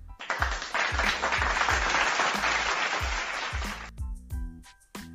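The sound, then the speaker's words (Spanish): A burst of crowd applause played as a sound effect to introduce the Crown Jewel 2022 card, dense clapping with a few whoops over a steady rhythmic thump, ending abruptly near four seconds before brief stray sounds. “Nada, pongamos un aplauso. ¡Aplauso!”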